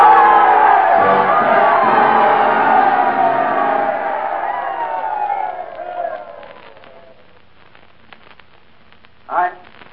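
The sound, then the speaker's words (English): A large stadium crowd rises to its feet, roaring with cheers and applause for Lou as he comes up to the microphone at a ball field, loud and sustained, then gradually fades to scattered claps and near quiet before a brief shout near the end. “And the crowd rose to its feet and they told him they loved him.”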